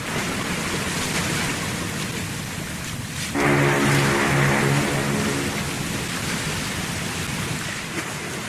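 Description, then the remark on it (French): Harbour ambience at the port of Bordeaux: a steady wash of water laps throughout, and midway a low, droning horn-like tone sounds for about two seconds over it. No one speaks. “Le 24 octobre 1884, François Issali, désigné chef du convoi, arrive sur le port de Bordeaux avec 162 personnes. Au loin, le Belgrano, vapeur de la compagnie chargeur réunie, les attend.”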